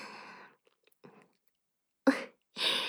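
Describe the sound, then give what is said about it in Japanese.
Wet slurping and sucking sounds in short bursts as someone slurps up pre-ejaculatory fluid, with a brief gap of quiet between them and no talking. “今私が我慢汁をすする姿を見て興奮しましたか。”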